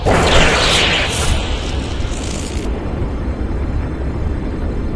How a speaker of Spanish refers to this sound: Por la noche, cuando todos dormían con sueño inquieto, el volcán explotó con furia.